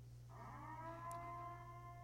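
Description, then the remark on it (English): A stadium siren at a baseball game in Lansing, Michigan, signals that all concessions are free for that half inning. It sounds a steady, sustained wail that starts a moment in and holds at even loudness over a low constant hum, with no voices. “Once you hear the siren, all concessions will be free for that half inning.”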